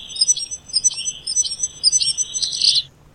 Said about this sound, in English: Is it a firecrest? You can get firecrest, this is a goldcrest. Goldcrest. Yeah, firecrests are very similar but rarer.